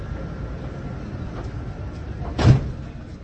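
A steady low rumble of a Prague metro train, then its sliding doors shut with a single firm thump before the hum continues. No one speaks.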